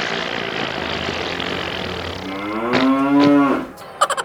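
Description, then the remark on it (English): A single drawn-out, wavering moo from a sick cow from Yorkshire, England, stumbling along in a street parade, rising out of a steady engine-like drone, followed by a few quick rattling taps at the end. “Looks like a cow, but I think it's sick.”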